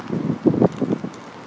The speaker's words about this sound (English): It's a terrible day for it, though. As you can probably hear, it's pouring with rain.